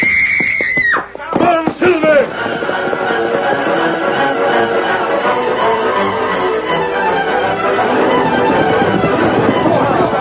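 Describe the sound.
A woman lets out a short, high-pitched scream for help at the very start, followed by a dense, loud wash of commotion and overlapping voices that continues to the end.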